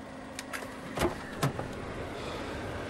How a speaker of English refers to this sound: He stops the car and opens her door.